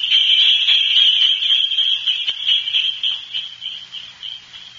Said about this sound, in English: Well, that was a cinch. Jingle bells and the good old winter time.